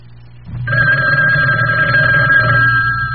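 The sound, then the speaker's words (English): A telephone bell rings in one sustained, bright, metallic trill lasting nearly three seconds, loud over a low steady hum, with no one talking. “There's the telephone.”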